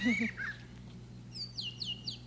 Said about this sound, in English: That's a brown thrasher. Brown thrasher. Yeah. Sounds something like a catbird, doesn't it? Yeah, sort of. Imitates.